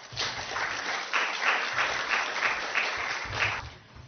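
An audience claps steadily for about four seconds, a dense, even patter of many hands that swells slightly and then tapers off near the end, with no voices over it.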